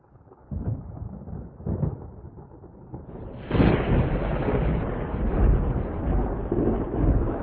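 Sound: thunderstorm with rolling thunder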